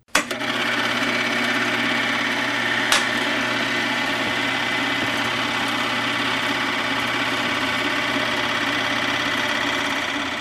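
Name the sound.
film projector running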